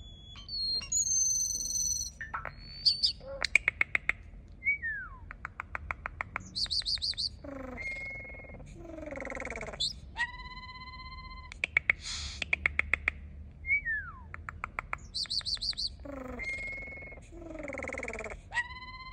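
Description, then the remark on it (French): A common starling sings, a busy medley of high whistles, sharp clicking rattles, and sliding squeaky notes that bursts out in varied phrases for about twenty seconds, with no voices. “Les sons que vous venez d'écouter sont des chants d'oiseaux, des chants d'étourneaux sans sonnet précisément.”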